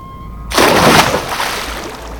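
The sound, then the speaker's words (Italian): After a brief quiet hum, a person plunges into the sea with a sudden, loud splash, followed by churning, bubbling water that slowly settles. No one speaks. “Il mare! Sono salvo! Riemergo.”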